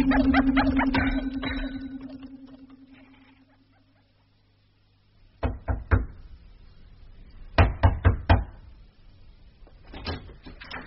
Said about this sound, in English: Why can't you young people learn to knock? But I did.